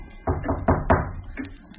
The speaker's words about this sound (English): Who's that knocking on my door?